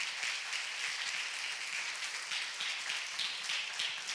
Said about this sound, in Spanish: ¿Por qué no le aplaude a Dios de Jael? Aplauda a Jael, aplauda a Dios.